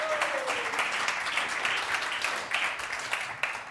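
A crowd applauds steadily for a few seconds, a dense wash of many hands clapping at once with no voices standing out.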